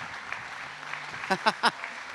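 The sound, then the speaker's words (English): A church crowd claps for Jesus in the morning after a prayer, a steady, diffuse wash, with three brief, louder bursts near the end that sound like voices calling out over the applause. “Come on, let's give Jesus a hand clap this morning.”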